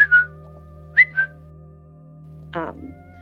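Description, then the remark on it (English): Short, sudden involuntary whistle tics: a quick pair of high chirps, then another pair a second later, fairly clear over a low steady hum, followed by a brief throaty noise. “I think I picked up the whistle”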